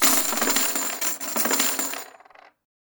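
A cascade of gold coins pours and clinks together for about two seconds, bright and jangling, then a few last scattered chinks settle before it falls silent. No one speaks.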